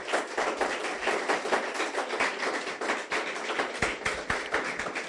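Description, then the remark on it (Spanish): An audience at a Christian sermon applauds for the Lord in sustained, dense applause for about five seconds, many overlapping hand claps forming a steady, fairly loud crackle with no voices over it. “Ahora sí, denle un aplauso al Señor.”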